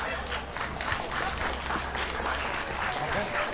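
An audience breaks into steady applause, many hands clapping in a dense, sustained wash of sound that stays fairly even in loudness for several seconds.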